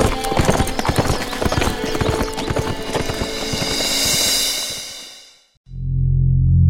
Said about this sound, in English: The three wolves mounted their horses, the excited animals stamping and tossing their heads in their eagerness to be off, and rode into the misty dawn.